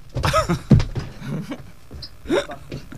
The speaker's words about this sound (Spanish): Voy a dar un cabezazo en directo en la radio porque es el último programa de la temporada. Venga, pues pégatelo fuerte.